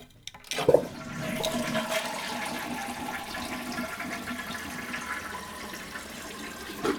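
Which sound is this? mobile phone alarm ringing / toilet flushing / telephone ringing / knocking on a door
toilet flushing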